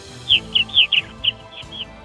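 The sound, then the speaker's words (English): A series of about seven short, bright chirps from a purple martin colony, quick and irregular, rising and fading over a low, steady background tone, with no one speaking. “Northern Indiana Purple Martin landlords love listening to Issues Etc. while tending their colonies.”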